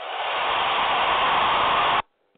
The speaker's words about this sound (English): You hear the roar of the crowd?